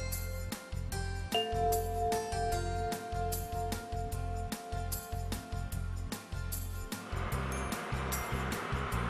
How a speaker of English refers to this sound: What could it be? I think it's a tractor.